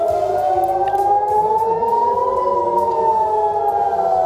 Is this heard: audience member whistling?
no